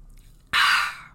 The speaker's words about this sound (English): That was my Alani New saying hello. Hold on, let me give a little slurp.